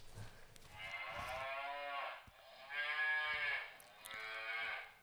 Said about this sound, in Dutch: In de morgen staan de koeien voor het hek heel hard te loeien. Boe, boe, boe. Ze willen naar het weiland toe. Nou, dan kun je op een knopje drukken, of tenminste bekennen, en dan hoor je de koeien.